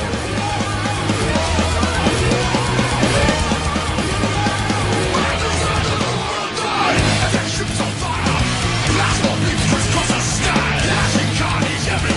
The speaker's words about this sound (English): And let's have some more rage music, guys. Clint, fire one.